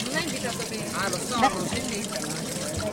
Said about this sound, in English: People filling bottles, some with the shape of the Virgin Mary, with water from the Lourdes spring.